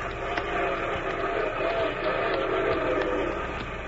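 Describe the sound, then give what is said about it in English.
A silver train rumbles steadily with a dense, roaring clatter, while a sustained whistle tone runs through the noise without breaks. No one speaks. “You know what a fella at the waterhole told me about that silver train goes by here every night?”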